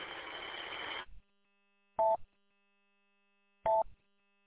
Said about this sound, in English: Yeah, just some Roger beep over and over again.